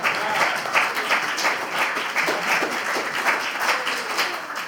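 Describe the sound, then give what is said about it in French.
A crowd applauds steadily, many hands clapping together in a dense, even wash of sound that stays at a constant level for several seconds, with no one speaking over it. “Il faut quand même applaudir les 2 autres.”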